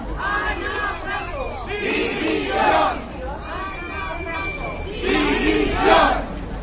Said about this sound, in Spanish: Hoy, delante del Ayuntamiento, con gritos se concentraban y pedían las dimisiones del alcalde y la concejala de urbanismo. ¡Dimisión!